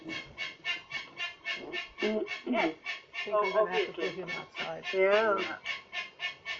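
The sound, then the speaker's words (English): A pet bird squawks over and over in a steady, rapid rhythm, loud, with some warbling, voice-like chatter mixed into the middle of the calls. “I'm going to have to deal with the bird, guys.”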